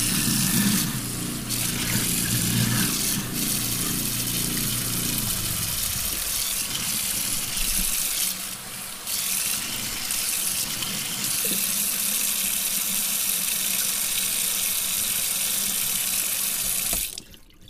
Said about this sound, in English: Let's run the water and the garbage disposal. Actually, I'm going to take the windscreen off just to be safe. So we're actually going to hear crisper water.